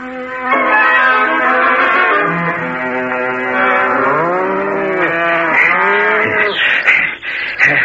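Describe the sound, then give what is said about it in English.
A herd of cows, bulls and buffaloes being separated, lowing together, several deep, drawn-out moos overlapping continuously, loud and steady with rising and falling bellows and no talking. “Gray Brother and I have separated the cows from the bulls and the buffaloes.”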